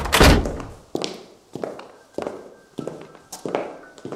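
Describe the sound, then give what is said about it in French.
A church door creaks and thumps open, then a woman's hard heel footsteps click at a steady, unhurried pace, about five sharp steps in an otherwise quiet space. “Il fut interrompu par le grincement de la porte, les bruits de talons.”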